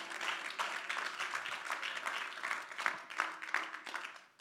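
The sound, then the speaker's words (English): Scattered, thin applause from a small audience, a steady patter of light claps with no strong rhythm, fairly soft and continuing throughout without any voices. “Before we get, thanks for that, like, weak clap, whatever.”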